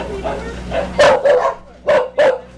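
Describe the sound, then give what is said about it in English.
A dog barks in short, sharp bursts, four loud barks in two quick pairs, with softer yips and whines between them, echoing from inside a small cage in the Spaymobile, where 20 dogs and cats wait their turn in small cages. “Inside the Spaymobile, 20 dogs and cats wait their turn inside small cages.”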